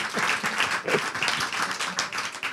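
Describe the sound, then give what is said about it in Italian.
Steady applause from an audience, a dense crackle of many hands clapping that holds at an even level throughout without a clear rhythm. “Facciamo un applauso a questo ragazzo.”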